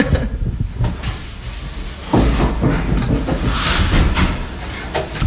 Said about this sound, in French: Il y a un écho, je vais fermer les portes plutôt.